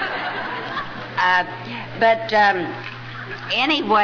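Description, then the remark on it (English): A steady, hissing trickle of drinking water being poured runs throughout, with a few short voiced chuckles and murmurs breaking in over it. “But anyway, I got, would you hand me my water? I just got to have a drink.”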